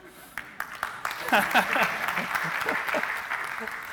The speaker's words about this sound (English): Wasn't expecting an applause from that.